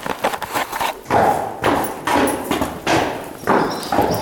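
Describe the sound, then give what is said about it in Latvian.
Heavy hooves of Persijas, a 6-year-old Belgian draft horse working in the state police mounted unit, clop in a slow, uneven series of thuds and scrapes as the horse shifts and steps, with no talking. “Persijas ir Beļģu vilcēšķirnes zirgs.”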